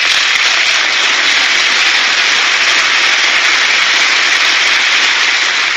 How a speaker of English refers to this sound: Bernie Sanders is even applauding. Tim Kaine is applauding. Not Nancy Pelosi.